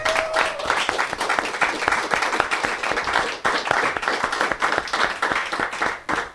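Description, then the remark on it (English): An audience claps steadily for several seconds after an announcement of funding to work with PwC on the development of a Pride Centre, a dense, loud patter of many hands with no voices rising above it. “See, that's why the minister doesn't let me do announceables, because you get claps for announceables, you know.”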